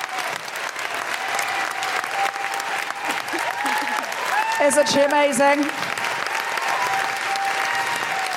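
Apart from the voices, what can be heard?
audience applause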